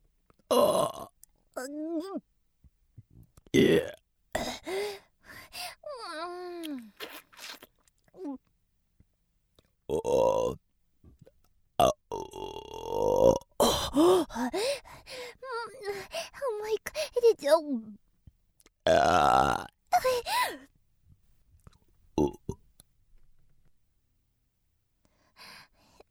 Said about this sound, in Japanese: これくらいかな。ゲップ出ちゃいそう。